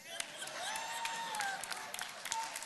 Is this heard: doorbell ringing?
no